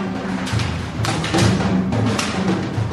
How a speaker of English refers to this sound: He introduces inarticulate, voiceless sound to convey the group's suffering and desperation. The sounds include hand rubbing, foot shuffling, murmurs, groans, and sighs. And the noise of improvised shelter being slapped together.